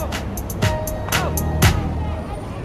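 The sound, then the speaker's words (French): A busy street scene at midday with a steady rumble of car traffic, sharp passing noises and clatter, and indistinct voices in the background, moderately loud; neighbourhood streets crowded with cars and schoolchildren weaving between the vehicles on a broken-up road. “Autour du centre, à la mi-journée, les rues du quartier sont bondées, envahies par les voitures et par le flot des écoliers qui slaloment entre les véhicules.”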